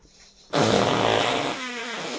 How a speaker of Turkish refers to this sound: Ay osurdum. Ay osurdum. Osurdum o sesi geldi mi